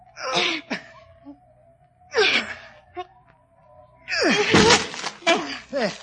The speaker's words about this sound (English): can't you break the door down? I can try, milady. Here, let me help. Now then, both together.